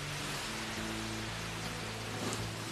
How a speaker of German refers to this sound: Ich versuche mal, dieses Feuer mit einer Gießkanne voll Wasser zu löschen. Hört mal, wie das zischt und schaut mal, wie es dampft. Das Wasser entzieht die Energie und kühlt, bis das Feuer ausgeht.